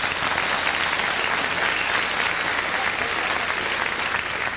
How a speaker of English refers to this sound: Let me ask black people, how many black people in this audience tonight would be angry if they were called a nigger by anyone other than a black person? By a round of applause.